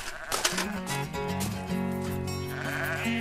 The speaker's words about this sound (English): she runs a small flock of sheep on this part of the farm. Hello, sweeties. Hello, hello. The sheep are, it's a small organically certified flock, and I'm just building up a small breeding flock at the moment.